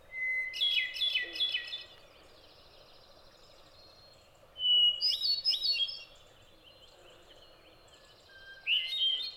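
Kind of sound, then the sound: bird, hermit thrush song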